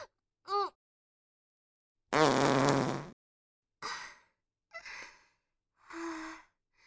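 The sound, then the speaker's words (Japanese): A loud, buzzy fart rips out for about a second, with short breathy gasps and sighs before and after it. No one speaks. “うんこじゃなくておなら出ちゃった。”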